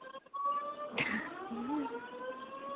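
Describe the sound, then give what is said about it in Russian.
A building fire alarm blares continuously with a steady, high-pitched electronic tone, with a brief clatter near the start and no voices. “Пожарная тревога у вас там или что? Ага, сработала.”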